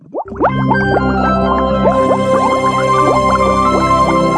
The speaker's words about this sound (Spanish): El sonido de las burbujas, la efervescencia del pensamiento, la necesidad de encontrar respuestas.